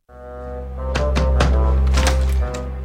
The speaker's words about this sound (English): And so he's knocking on your door to see if you can help. Let's listen.